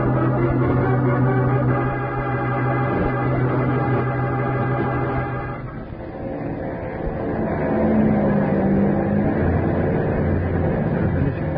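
A steady airplane engine drones loudly and continuously as the plane comes down to land, its low humming tone shifting slightly partway through as the pitch of the motor changes. No voices are heard.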